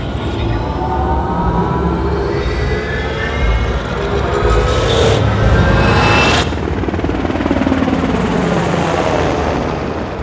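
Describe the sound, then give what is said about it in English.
A helicopter drones steadily as it flies over jungle terrain thick with huge green trees in Peru, South America, its loud, continuous rotor chop and engine whine filling the whole stretch, with a brief rise in intensity midway. “We're in a helicopter.”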